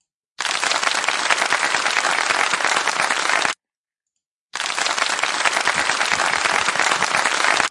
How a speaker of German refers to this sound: Oh, ich habe ja sogar ein Soundboard. Warte mal. Guck mal. Da müssen wir uns doch selbst mal auf die Schulter klopfen und ein wenig klatschen.